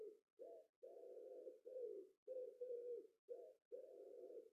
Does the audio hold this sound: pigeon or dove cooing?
yes